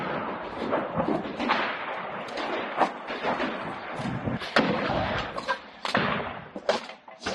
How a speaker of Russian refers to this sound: Стрельба не утихает ни на минуту. Пехота вскрывает огневые точки противника, а тяжелая техника и вооружение оперативно их уничтожает.